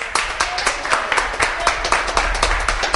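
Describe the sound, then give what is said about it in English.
A crowd breaks into steady applause and cheering for the Lord, many quick irregular claps merging into a continuous wash, with a faint murmur of voices beneath and a low rumble throughout. “Give the Lord a cheer.”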